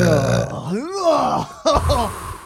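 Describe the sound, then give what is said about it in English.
A deep, loud burp rumbles up from low in the throat, rising and falling in pitch over a couple of seconds before a second guttural push closes it out, unbroken. “it just comes from the bottom of his stomach and you can just hear it coming up through his entire sternum”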